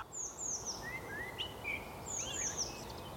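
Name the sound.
bird calls and chirping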